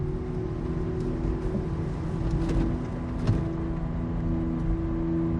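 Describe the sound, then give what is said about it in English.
A Porsche cruises steadily along a vacant road past parked cars and dark shop fronts under glowing street lamps, its engine and road noise forming a constant low droning hum with a few faint clicks. “They cruise down a vacant road.”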